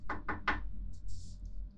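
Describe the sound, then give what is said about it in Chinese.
Three quick, evenly spaced, sharp knocks on a door as someone arrives, followed by a brief soft hiss and quiet room noise. No one speaks. “等等，有人敲门，来啦！”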